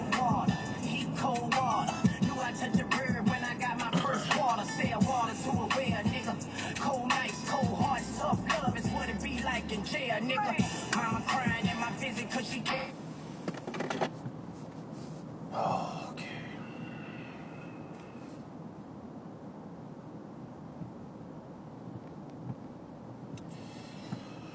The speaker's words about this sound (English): I can tell you what it bees like here in the tunnel. The walls of the tunnel look dirty. There are a lot of cars in the tunnel.